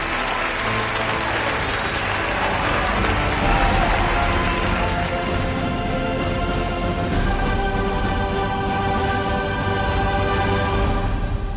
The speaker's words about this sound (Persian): امسال به احترام شما عالی جناب ابراهیم حقیقی تمام قد می ایستیم و صدای تشویق رو در اطرافمون می شنویم.